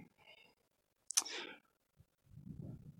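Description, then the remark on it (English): A single sharp computer mouse click sounds midway through a quiet stretch, followed by a brief tick and some soft low rustling toward the end, as someone clicks on an online article titled 25 crazy news headlines found by Googling crazy headlines. “So I Googled crazy headlines, and then I'm clicking on this article that says 25 crazy news headlines.”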